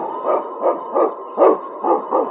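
King, a sled dog and lead dog of the North Country in The Challenge of the Yukon, barks six times in quick, steady succession, each bark short and fairly loud, with no voices or other sounds around it.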